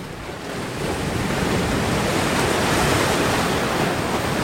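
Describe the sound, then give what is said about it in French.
Steady roar of wind and surf at a flat, unobstructed seashore, a broad continuous rush that swells slightly after the first second and stays loud throughout, with gusty rumble buffeting the microphone and no voices. “La mer n'a pas l'air ronde. Elle ressemble à de l'eau qui flotte. J'arrive plus à voir avec le vent.”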